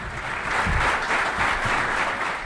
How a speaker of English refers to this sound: The new head football coach at WKU was met with applause from a room packed with people Monday afternoon. When Bobby Petrino made his way to the podium alongside WKU Athletic Director Todd Stewart, he was instantly recognized by college football fans